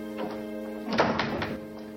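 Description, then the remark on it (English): A door shuts: a soft knock, then a solid thunk followed by a couple of quick rattling clunks, all over a steady, humming musical drone. “He walks out the door.”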